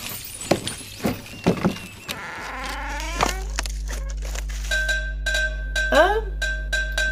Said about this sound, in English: The cowbell is an error message to highlight when floor collision doesn't line up with the environment.